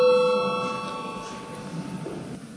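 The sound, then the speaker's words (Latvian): The Saeima chamber bell rings once before a vote on the 12th proposal, with a bright, sustained metallic tone that slowly fades over about a second, leaving a soft low murmur of background noise. “Lūdzu zvanu.”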